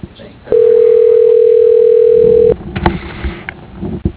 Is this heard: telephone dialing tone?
yes